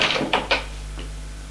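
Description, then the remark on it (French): A key turns in a bedroom door lock as a woman locks her door at night, giving three or four sharp metallic clicks in quick succession, then a fainter final click before a low, steady hum. “Elle a fermé la porte de sa chambre à clé.”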